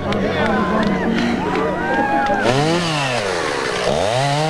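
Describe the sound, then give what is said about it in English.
A chainsaw roars, its engine whining as the pitch surges and dips through several throttle bursts while cutting a log in a muddy ditch, with a faint murmur of background noise underneath. “As he sets the chainsaw down,”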